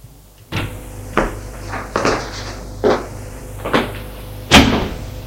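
A cellar door is pushed open very hard with a series of six heavy, scraping thuds at irregular intervals, the last the loudest, over a low steady hum, with no voices.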